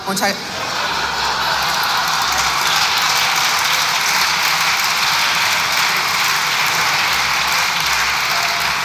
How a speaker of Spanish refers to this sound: El PP está de pie, la bancada, aplaudiéndole.